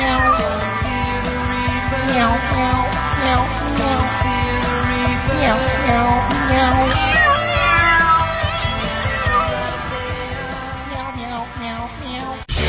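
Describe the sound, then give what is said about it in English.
Several cats meow and yowl over one another in a loud, continuous chorus, their drawn-out cries overlapping for the whole stretch with no talking. “The cats are uniting against the world.”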